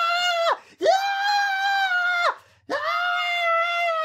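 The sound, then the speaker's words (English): A single voice imitates people acting like excited kids running around and screaming: a short shriek, then two long, loud, high-pitched sustained yells with brief gaps between them, uninterrupted by talk. “and I wouldn't even be surprised if you would have so many people acting like kids, running around and screaming like, yeah!”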